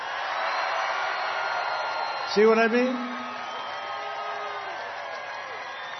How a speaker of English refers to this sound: But, you know, every time I introduce him, he gets the biggest applause.